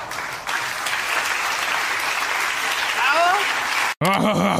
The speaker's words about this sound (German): Applaus, Applaus.